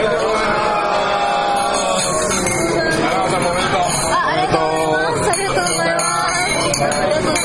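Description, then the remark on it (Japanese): Several glasses clink together in a toast as award winners join the judges after a judging session, amid a lively crowd: bright short chimes scattered over a few seconds against steady background chatter and murmuring voices. “まずは乾杯です。”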